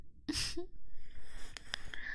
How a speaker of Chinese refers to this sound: 怪你鼻子底下的粗气呀，怎么越来越热了？你有本事啊，也把鼻子闭起来，不许喘气啊！